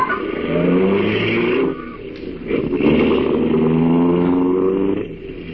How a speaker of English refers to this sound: Slammed the door shut, got in alongside of me. And we drove off.